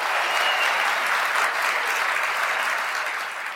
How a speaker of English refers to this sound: let's hear the clapping of hands.